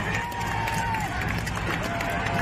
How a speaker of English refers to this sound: And so then all of a sudden he stands up, the crowd starts cheering, as you can hear there.